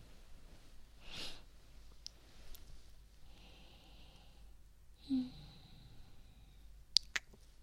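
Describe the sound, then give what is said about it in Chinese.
Several drawn-out, breathy yawns follow one another, quiet, with a couple of small sharp clicks near the end and no talking. “没看见我这哈欠打的，一个接一个的。”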